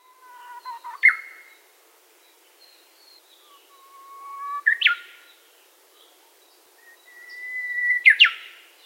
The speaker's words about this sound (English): The piercing song of the uguisu, or Japanese bush warbler, can now be heard throughout this region from December until late summer.